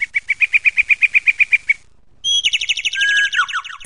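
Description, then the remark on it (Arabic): Sparrows chirp in the morning in a town, starting with a quick, even series of about fifteen bright notes, then a short pause before a busier, overlapping burst of twittering calls. “العصافير وحدها استيقظت كل الأولاد نيام بسبب السهر إلى ساعة متأخرة من الليل.”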